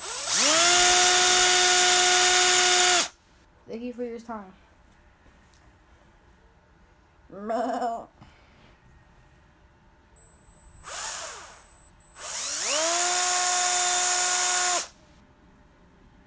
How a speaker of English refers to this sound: Power drill time. Guys, here's a power drill ASMR. Hope you guys like it.